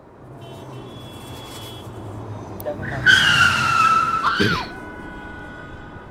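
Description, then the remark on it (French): A car skids hard and nearly runs over a person, tires squealing loudly for about a second and a half before stopping abruptly, over a steady hum of traffic. “Vous avez presque été écrasé par cette voiture.”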